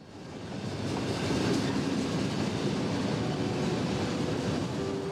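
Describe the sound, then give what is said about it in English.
A train rumbles past on the tracks in Texas, a steady loud roar with dense rhythmic clatter that swells quickly in the first second and holds continuous throughout, with no voices. “A group of 5 teens stand near the tracks as the train goes by.”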